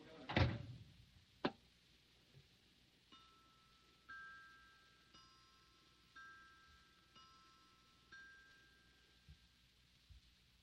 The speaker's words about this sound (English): And shut the door, Mr. Peavy. I want to be alone for a while.